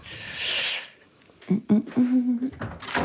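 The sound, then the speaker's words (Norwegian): A balcony door bangs shut with a couple of sharp knocks after a brief rush of air, followed by a short stretch of voice. “Nå har jeg en dør som smeller litt her, jeg tror jeg bare skal lukke den, ja.”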